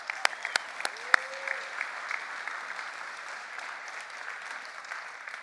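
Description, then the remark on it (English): A church audience applauding after a sermon and closing verse: steady, dense clapping from many hands, with a few sharper individual claps standing out near the start. “Yeah, you clap for that.”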